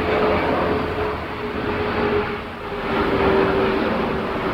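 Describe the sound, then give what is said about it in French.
An airplane passes overhead with a loud, continuous roar that dips briefly, then swells again, a thin steady whine running through the rushing noise. No one speaks. “Justement, un avion qui passe.”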